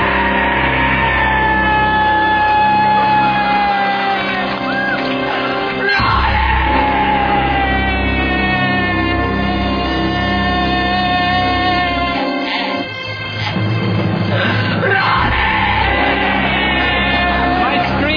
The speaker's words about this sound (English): For 2 hours, and I set a new world's record for screaming.